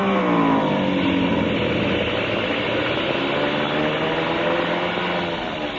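A loud, steady airplane engine that has been acting up drones, its throaty hum shifting slightly in pitch as the plane comes in to land, with no voices over it.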